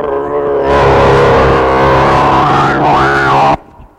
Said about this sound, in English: God will plow us up over and over, plow up your back. Here comes a tractor of God.